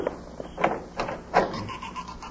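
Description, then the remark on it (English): A door creaks open slowly, its hinges letting out a few drawn-out, groaning squeals in uneven pulses, moderately loud with no voices. “Oh, the dead blasted door.”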